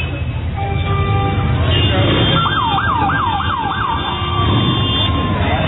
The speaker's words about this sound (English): That sounds like a police motorcycle.